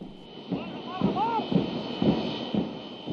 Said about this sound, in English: Last month, an Iraqi Airways jet carrying the country's prime minister landed here in Najaf to inaugurate the city's new airport.